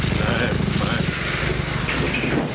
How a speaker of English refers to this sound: Motorbikes. Confounded contraptions.